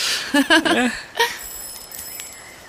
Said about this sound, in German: Wie wäre es, wenn wir einfach an der Haustür klingeln?